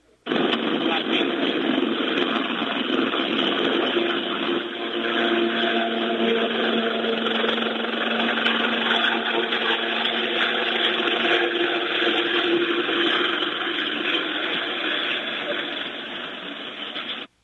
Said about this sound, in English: And we want to just bring listeners a sense of what was there at that time by playing them some of the Apache helicopter sound followed by the tanks rolling in.